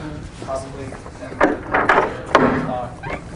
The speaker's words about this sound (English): Let me just close the door here.